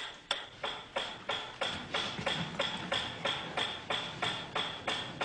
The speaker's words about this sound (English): At first, the dog dripped saliva into its cheek tube only when the food appeared. But after a number of trials, the dog began to connect the ticking with the arrival of meat.